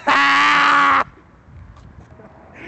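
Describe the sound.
A man imitates a rooster crowing: one loud, strained, sustained cry lasting about a second, then it cuts off abruptly, leaving only faint rustling and low background noise.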